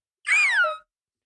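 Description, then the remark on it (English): A person imitates a bird of prey's cry: a single high, piercing screech lasting about half a second, sliding downward in pitch, fairly loud and alone with silence before and after. “and then when a bird of prey flies past,”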